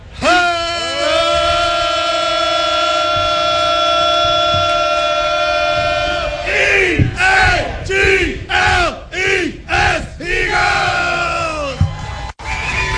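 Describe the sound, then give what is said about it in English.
A crowd of voices chants the Birds team chant for listeners around the Delaware Valley, opening with a long sustained harmonized note for about six seconds, then breaking into a loud rhythmic series of short shouted syllables with a final sharp hit. “Everybody, little Birds chant for everybody listening around the Delaware Valley.”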